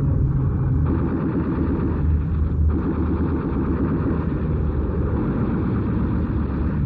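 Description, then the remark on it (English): Attacking Messerschmitt fighter plane engines roar in a loud, steady drone that fills the whole stretch, a thick rumbling mass of propeller noise with no voices. “Look out! Messerschmitts! Hand in the sun, boys! Here they come.”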